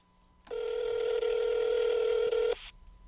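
A telephone ring that is part of a CD track plays in one loud, sustained electronic burst lasting about two seconds, clear, then cuts off to near silence. No one speaks.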